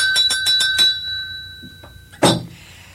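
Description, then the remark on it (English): A hand-rung school bell clangs in a quick burst of about five strokes, its bright ringing tone hanging in the air, then one louder, harsher clang before it fades. No one speaks. “That bell, do I dare ring it? Why don't we ring it, yes.”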